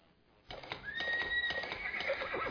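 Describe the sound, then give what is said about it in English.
A horse whinnies loudly in a radio advertisement for the Ozark Horse Trader, its high wavering call rising over a steady clatter of hooves clip-clopping beneath it, all starting abruptly after a brief quiet moment. “Let the power of the horse go to work for you.”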